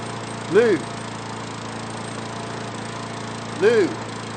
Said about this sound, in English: I'm mowing Mrs. Leday's lawn.